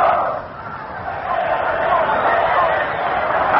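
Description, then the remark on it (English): A large crowd at Yankee Stadium chants an Army cheer during a timeout in an Army versus Notre Dame football game, a dense, steady roar of many voices, muffled and continuous for a few seconds. “We're just about to go down there to pick up an Army cheer, and here comes one knife.”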